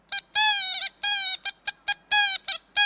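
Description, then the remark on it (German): A toy horn from Kolkata (Calcutta), a Kalkuttertröte, blown in a burst of short and longer honks, a bright buzzy tone around one steady pitch, loud and choppy with brief gaps between blasts, no voices. “Wir spielen auf seinen Tröten und er bringt mich so sehr zum Lachen, dass jedes Bild verwackeln musste.”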